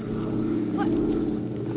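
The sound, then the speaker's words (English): A propeller airplane flying away; its engine drones steadily, a continuous low, rumbling hum with a slight buzzing edge that holds at a fairly even loudness throughout, with no voices. “The plane's going away.”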